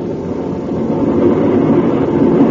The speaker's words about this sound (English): The motors are revving up now, Mellish. It's too late for you to change your mind. You're going to Osiris with us.